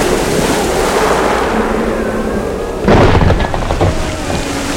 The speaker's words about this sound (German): Die Wellen sind so hoch. Schau doch, da rollt eine riesige Welle ran. Sie wird uns in die Tiefe reißen. Haltet euch bloß fest!